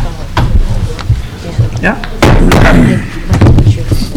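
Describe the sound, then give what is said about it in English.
A gavel strikes a wooden block several times to call the March 21, 2011 Chicago State Board of Trustees meeting to order, sharp knocks with one especially loud bang, over a murmur of voices. “Want to bang that gavel for me?”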